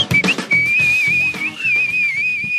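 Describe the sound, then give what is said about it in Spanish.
A person whistles a long, high, wavering trill that imitates a goldfinch or canary singing cheerfully in its cage, holding a bright, warbling pitch with slight dips, over a low rhythmic background of muffled thumps. “¡Un canarito! Cantando alegre y dulcemente en su jaula.”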